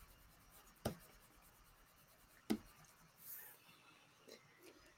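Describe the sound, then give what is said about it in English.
Quiet brush pen strokes on watercolor paper: two crisp dabs a couple of seconds apart, then softer brushing sweeps over a faint hiss, with no talking. “The wonderful thing about these brushes, these brush pens, like they really sink into the watercolor.”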